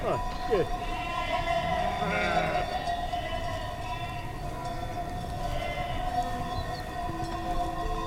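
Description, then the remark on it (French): A flock of ewes bleating in overlapping, drawn-out calls, moderately loud, blending into a continuous wavering chorus, as a shepherd with his horse and donkey leads them up onto a plateau above a river in Aragon, Spain. “Un berger monte avec son caballo, son âne, les brebis, sur le plateau.”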